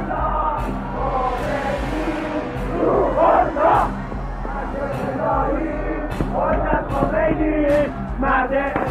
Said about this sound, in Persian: فریاد رعداسای یا مرگ یا خمینی در آسمان قم تنین افکند.